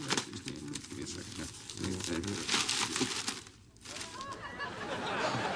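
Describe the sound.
Continuous crinkling and rustling of newspaper pages being crumpled and rummaged through while searching for a woman's photo printed in the paper, with brief pauses and a low murmur of voices in the background.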